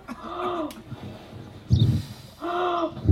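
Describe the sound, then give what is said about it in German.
Several voices, including adults, imitate a wolf trying to blow down a little pig's house, huffing and blowing hard in strong breathy bursts mixed with drawn-out, howl-like vocal tones, fairly loud, in two main waves. “Und der Wolf fing an zu pusten.”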